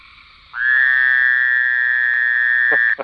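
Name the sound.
fowler's toad call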